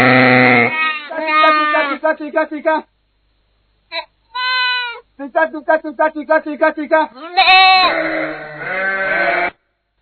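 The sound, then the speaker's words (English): A flock of sheep bleats loudly as shepherds call them, with many overlapping wavering calls in rapid bursts, a brief lull partway through, then the chorus of bleating resumes. “Can you show the shepherds calling their sheep?”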